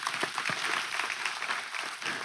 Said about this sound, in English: We're gonna clap for that. Amen.